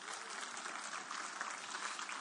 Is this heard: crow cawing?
no